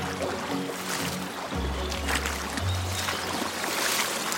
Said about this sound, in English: So you can actually hear some of the work that the guys have been doing up here, actually. Yeah, it's definitely getting louder, isn't it? That water. Yeah. So that's some of the work they've been doing.